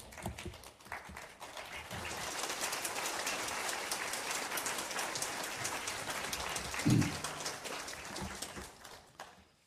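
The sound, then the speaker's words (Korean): An audience at a church worship service breaks into sustained applause to welcome the pastor coming forward, a dense wash of many hands clapping together for several seconds before tapering off. No one speaks over it. “네, 감사하고 목사님 나오실 때 우리 다시 한번 박수로 환영하겠습니다.”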